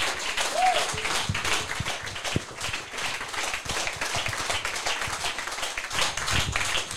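Steady audience applause fills the whole stretch, a dense crackle of many hands clapping at an even level, with a brief whistle-like tone near the start and faint voices mixed in.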